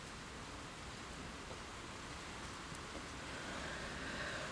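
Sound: rain falling outside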